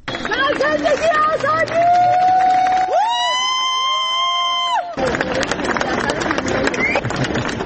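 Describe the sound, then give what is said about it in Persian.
A loud crowd at Tehran airport cheers and chants with many overlapping voices as film director Jafar Panahi arrives, two days after winning the Palme d'Or at the Cannes Film Festival, broken by a few seconds of a sustained, horn-like tone before the cheering surges back. “بر اساس ویدیوهای منتشر شده در شبکه‌های اجتماعی، جعفر پناهی دو روز پس از دریافت جایزه نخل طلایی جشنواره فیلم کن بامداد امروز وارد فرودگاه تهران شد و مورد تشویق حاضران در آنجا قرار گرفت.”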